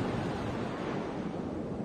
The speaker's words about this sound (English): Here's another good one. …. Close your eyes, apart from if you're driving. Ah, the sea. Lush. So is it just a CD just plays this constantly? Yeah, it's really good.